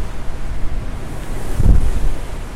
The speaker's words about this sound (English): The waves sound different on this side. I think we're just farther forward and we're not catching the waves as they're farther back. They're still forming here. They're still being pushed out.